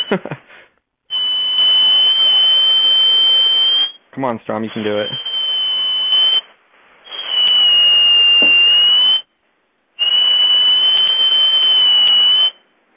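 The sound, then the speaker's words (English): Four long, steady, shrill whistle blasts at a high pitch, each lasting a couple of seconds with short gaps between, blown in an unsuccessful attempt to whistle off a telephone line, with a man briefly speaking between the second and third. “Trying to whistle it off, not having any success.”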